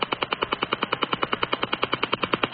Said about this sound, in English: Hear a woodpecker sound? Okay, let's see what this sounds like if you tune across the shortwave band and find out where it's